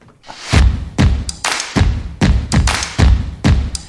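A rapid series of heavy thumps, about eight in a row at a steady half-second rhythm, loud, as a chair is raised in height. No one speaks.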